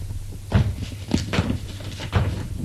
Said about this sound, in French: Tout doucement, ouvre la porte.